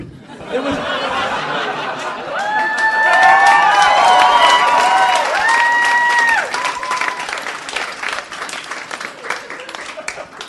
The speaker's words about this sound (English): You just got a standing ovation for a pun. It's awesome.